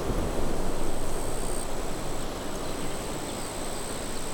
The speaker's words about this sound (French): Le vent dans les feuillages qui claque à vos oreilles.